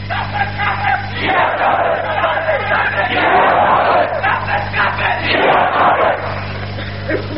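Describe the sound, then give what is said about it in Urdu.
A large crowd shouts slogans together in loud, rhythmic bursts of massed voices, rising and falling in waves over a steady low electrical hum. “میں نے عرض کیا کہ نعروں میں ذرا کمی لائی، کچھ دیر بعد نعرے کی بڑاس آپ بے شک نکال لینا، لیکن مجھے آج اس زمین کو ہموار کر لینا.”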